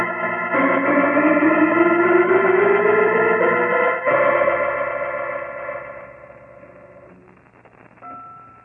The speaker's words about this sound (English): That blast and tolling is beginning to get on my nerves. Holmes, great Scott! Listen to those bells! Yes, Watson, something's gone wrong. Sounds as though young Griggs has suddenly gone mad.